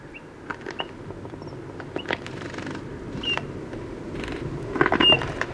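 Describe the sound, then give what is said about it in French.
A bird with a red breast and black, grey and white plumage takes off, its wings flapping in a few quick, papery bursts, irregular soft flutters over a steady low rumble, while a car arrives, with a couple of faint high chirps in the background. “Bruit des ailes, il s'envole.”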